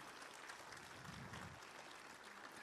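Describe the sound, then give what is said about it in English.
Steady, dense applause from a crowd giving a man a hand clap, many hands clapping together in a continuous wash of sound that holds at an even level throughout, with no voices standing out. “Give him a hand clap, everybody.”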